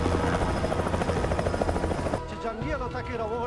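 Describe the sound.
A helicopter landing on a mountainside, its rotor thumping loudly in a steady, rapid chop for about two seconds, then cuts abruptly to a person talking over faint background noise.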